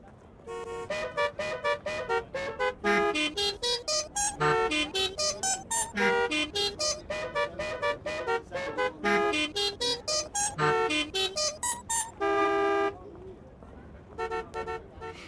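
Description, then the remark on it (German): Car horns honk out a bouncy melody, one sharp harmonic-rich toot after another in quick rhythmic succession, with a long held blast near the end before a few final short honks. “Ruft mich an und sagt mir, welches Musikstück da gerade so wunderschön gehupt wurde.”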